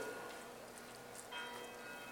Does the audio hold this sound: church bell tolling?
yes